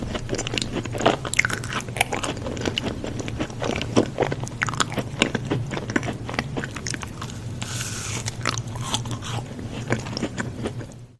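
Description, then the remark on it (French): Loud, wet chewing and crunching of food, with repeated sharp bites and smacking sounds in an irregular rhythm, continuing steadily throughout with no talking. “Des personnes qui vous empêchent de mâcher un chewing-gum, manger du pop-corn ou boire bruyamment sous prétexte qu'ils ne supportent pas ça, souffrent bien plus de ce que vous ne l'imaginez.”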